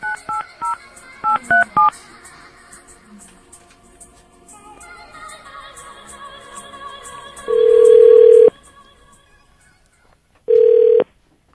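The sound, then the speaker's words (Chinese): A quick burst of touch-tone telephone dialing as the radio show Ren Lai Feng (人来疯) calls a listener, several short beeps in a row, followed by two long steady ringback tones separated by a pause, with faint background chatter underneath. “OK， 我们现在赶快再冲刺，看可不可以打到下一个。”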